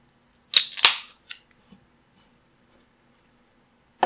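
A Toppling Goliath beer can cracks open with two sharp metallic snaps and a short fizzing hiss, followed by a few faint clicks, then another crisp snap at the end. No one speaks.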